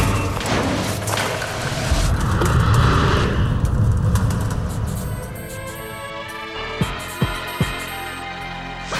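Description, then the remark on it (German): A speeding car roars closer and louder, its engine noise swelling, then a series of sharp thuds and impacts ring out as it crashes, with no voices heard. It is dark, and a man is pushing a shopping cart off the sidewalk to cross the street after crossing the Oberhafenbrücke. “Oh nein, ein Auto! Und viel zu schnell! Als er es bemerkt, ist es schon zu spät.”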